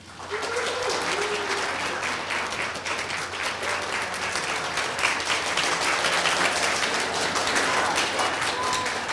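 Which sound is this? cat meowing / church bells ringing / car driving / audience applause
audience applause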